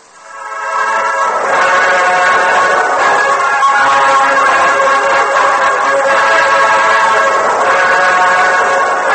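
A train pulls away from a station platform into the darkness in a Lone Ranger radio drama, a loud, steady wash of rumbling, whistle-like tones holding for several seconds after a quick rise, with no voices.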